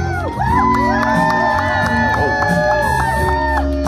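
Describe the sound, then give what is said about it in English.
A loud, continuous din of a crowd cheering at a Joe Biden rally as he makes his entrance walking down the stairs, with many overlapping whoops and shouts rising and falling across the whole stretch, dense. “Here's Joe Biden and a big entrance to his latest rally. Listen to that crowd.”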